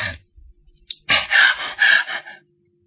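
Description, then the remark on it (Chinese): A male storyteller imitates the heavy, exhausted panting of a character worn out after a fight: a few short, quick huffs followed by two long, loud, rasping breaths, then it trails off into quiet. “他在那儿喘气，咱不提。”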